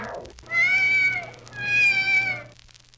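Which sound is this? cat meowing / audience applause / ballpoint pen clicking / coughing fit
cat meowing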